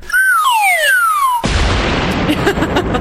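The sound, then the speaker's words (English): A falling slide whistle swoops down for over a second, then cuts abruptly into a loud, sustained crashing burst of noise, a cartoonish sound effect of a book flying across the room and hitting the wall. “That was the book going across the room and hitting the wall.”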